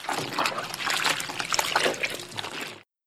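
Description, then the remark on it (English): Water runs steadily from a tap for about three seconds while washing the dishes, a continuous splashing stream with small irregular spatters, then cuts off abruptly. No voices. “I wash the dishes.”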